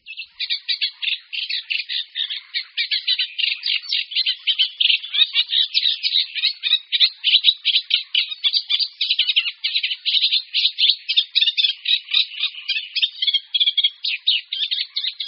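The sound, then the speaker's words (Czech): A Eurasian reed warbler sings a continuous, chattering song of rapid repeated notes in a steady churring rhythm, clear, with no voices or other sounds. “Snad nejznámějším obyvatelem našich rákosin je rákosník obecný.”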